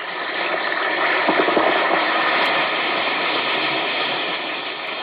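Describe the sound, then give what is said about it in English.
Steady, dense fizzing of an Alka-Seltzer tablet dissolving in water, a continuous crackling hiss with tiny popping bubbles that stays loud and even throughout, with no voices. “Listen to It Fizz.”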